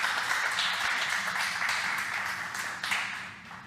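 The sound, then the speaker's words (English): A crowd claps together in steady, dense applause that holds for a few seconds before gradually thinning and fading out, with no voices over it, welcoming a presenter before a presentation about a software framework. “Give a round of applause, please.”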